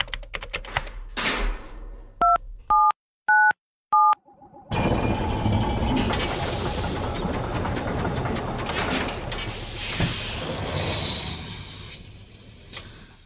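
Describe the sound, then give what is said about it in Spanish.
The keypad of a time machine punches in the date 9 August 1516: some clicking, then four short two-tone beeps in a quick, even sequence, followed by a sudden loud, sustained rushing, whooshing noise that fills the rest. “Pues tenemos ya delante de nosotros la máquina del tiempo, el teclado.”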